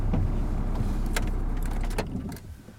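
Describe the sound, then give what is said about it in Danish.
A car engine idles with a steady low rumble and a few light clicks, then is switched off about two seconds in, leaving a brief quieter tail. The car is in a forest down by a fjord. No one speaks. “Skal vi slukke den her motor.”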